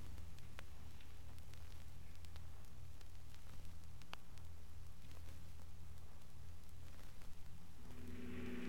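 A big convertible's engine drones steadily at low pitch amid hissy background noise as it drives off, with a brief shift in engine tone near the end; no one speaks.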